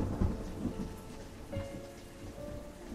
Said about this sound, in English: Starting to think this isn't any normal storm.